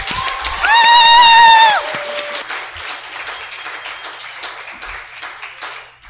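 A crowd applauds steadily for several seconds, the dense clapping swelling early as a high voice whoops over it, then gradually tapering off toward the end.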